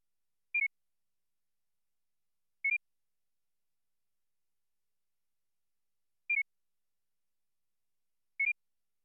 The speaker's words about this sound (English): First, you will hear a two-tone standard, followed by a two-tone target. This pattern repeats twice. Judge whether the pair of pitches in the target change in the same direction, up or down, as those in the standard.